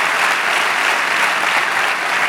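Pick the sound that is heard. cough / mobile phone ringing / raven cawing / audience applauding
audience applauding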